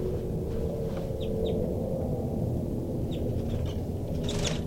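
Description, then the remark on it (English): Short, sharp bird calls from birds in a cell, including a rapid alarm call series by bird 3-3 and flight calls by bird 5-9, ring out in scattered bursts, a few quick chirps at a time, over a steady low mechanical rumble that fills the background throughout. “I'm in the cell now, and most of the birds are giving some calls.”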